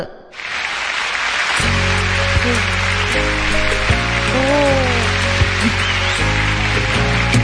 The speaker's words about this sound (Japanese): おー、すごい拍手から始まったちょこっとトークのコーナーです。内容はそんな拍手喝采な感じじゃないんですけど、あ、お、終わった。